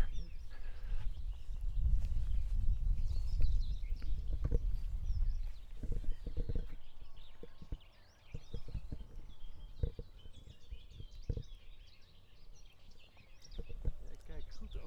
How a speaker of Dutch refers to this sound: Hoppa, daar gaat hij weer, de hegemus. Toch mooi vogeltje, hè?